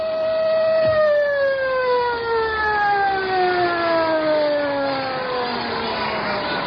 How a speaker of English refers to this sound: The siren moaned to still us, but there was no peace.